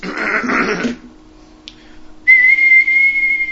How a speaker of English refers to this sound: That's just you whistling. No, yeah, that's much better.